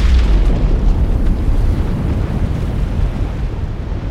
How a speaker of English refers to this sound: They called it the Trinity Test. At the moment the bomb detonated, the pre-dawn sky lit up, brighter than the sun, and the landscape was eerie and beautiful, in gold and gray and violet, purple and blue.